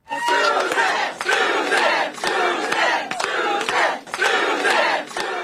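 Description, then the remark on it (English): Supporters of Judge Susan Crawford cheer and shout continuously at her Wisconsin election victory celebration, with loud, dense roaring that swells in repeated waves and sharp bursts of clapping and whooping throughout. “Judge Crawford's supporters were jubilant.”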